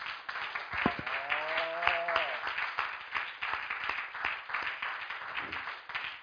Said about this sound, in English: God's good. If you believe He's better than good, give Him a hand clap.